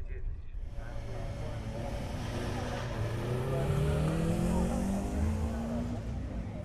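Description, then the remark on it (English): Race car engines hum and rev as the cars roll into the paddock, drivers coming in from their latest runs, one engine note climbing steadily in pitch over a constant rumble of motors and muffled background chatter. “and over in the distance, in the shade of some trees, is the paddock where all the drivers are coming in from their latest runs.”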